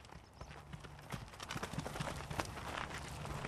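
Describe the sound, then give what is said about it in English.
Hooves of dairy cows clop steadily on hard ground on a farm as the herd walks past close by, down to the field after milking, an irregular stream of footfalls with a low background rumble and no talking. “Cows are just walking by us down to the field after milking.”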